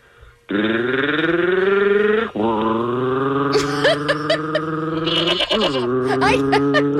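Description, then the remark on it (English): A person imitates a goat with long, loud, wavering bleats, two sustained cries, with other voices briefly cutting in near the end. “She does a goat.”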